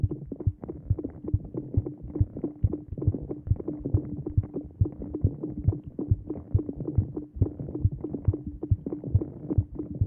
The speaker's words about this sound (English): And that was when I put my microphone under thawing icicles. There was drips, there were little streams of water, some of it was landing on leaves, and it was just the way that it came together. It sounded like music.